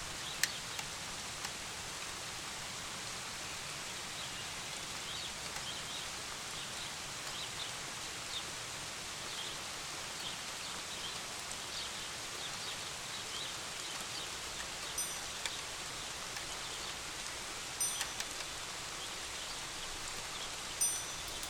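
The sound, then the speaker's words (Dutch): Steady rain patters continuously on surfaces, a dense, even hiss with scattered sharper drops, unbroken for the whole stretch, with no voices. “In plaats van dat gekletter dat ik een beetje probeer weg te filteren”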